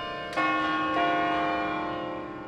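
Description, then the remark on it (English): Carillon bells in Jefferson, Greene County, ring out with two clear strikes a moment apart, their rich, layered tones lingering and slowly fading, heard alone. “Those Carillon bells in Jefferson, along with schools, libraries, police and fire departments, even an historic water tower in Scranton, all have benefited.”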